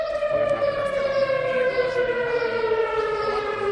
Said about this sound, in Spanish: Y te cuento también que la localidad de Sabiñánigo ha puesto esta mañana en funcionamiento su sistema de alertas por riesgo químico.